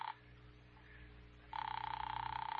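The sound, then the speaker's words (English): A telephone line rung by an operator for Captain Daggett rings in a steady, buzzing burst, with a brief ring at the very start, a short gap of faint hum, then the loud ringing returns and continues. “All right, Doctor, it's ringing here.”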